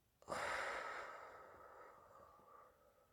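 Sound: slow deep breathing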